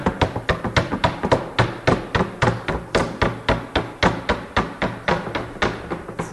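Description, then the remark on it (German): A chocolate mould filled with chocolate, held level with both hands, is rapped against a tabletop in a quick, steady rhythm, about three or four sharp knocks per second, fairly loud, with no talking over it. “Mit beiden Händen gerade halten und klopfen, klopfen.”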